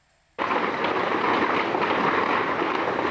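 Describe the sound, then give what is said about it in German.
After a brief quiet moment, a dense, continuous roar of crackling and popping bursts in, like rapid firecrackers, as bamboo scaffolding explodes in the heat of a major fire engulfing seven residential blocks. It stays loud and steady with no voices. “Es klingt wie Feuerwerk und ist tatsächlich ein Inferno. Bambus explodiert in der Hitze der Flammen, die von 7 Wohnblocks Besitz ergriffen haben.”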